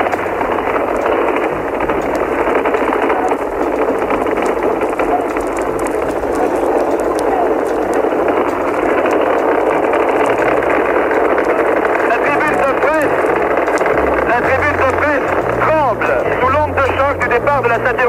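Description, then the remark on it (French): A Moon-bound rocket's engine roars as it lifts off from Cape Kennedy at 7:51 local time, its flame spreading nearly 300 metres: a dense, steady rumbling noise that stays loud throughout, with muffled voices faintly mixed into the thick wall of sound. “Vous commencez à entendre le bruit.”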